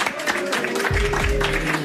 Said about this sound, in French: C'est donc une émission en public, un public venu nombreux ce soir. Et je pense qu'on peut les écouter, peut-être applaudir, faire du bruit. Faites du bruit.